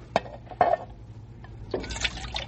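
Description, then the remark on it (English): Water is poured from a water bag into a pan to wet the mouths of horses and burros in the desert heat: two short splashes, then a steadier pour with a hissing, splashing texture that runs to the end. “We better wet our horses and burros' mouths, huh?”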